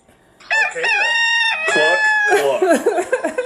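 A rooster crows loudly, one long, strained cock-a-doodle-doo with harmonic, wavering tones that rise and fall, ending in a ragged, breaking finish.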